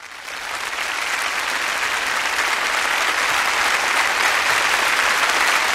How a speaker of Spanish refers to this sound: Los aplausos del público son para el maestro Leopold Stokowski, quien ha salido al escenario para ponerse al frente de la Orquesta Filarmónica Checa y dirigir su versión orquestal de la Pasacaglia y Fuga en Do menor BWV 582 de Johann Sebastian Bach.